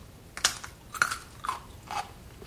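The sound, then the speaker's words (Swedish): Crunching as someone chews a crisp piece of cucumber taken from a spoon, four wet, snappy bites at an even, unhurried pace with no talking. “Jag tar in den i munnen och tuggar.”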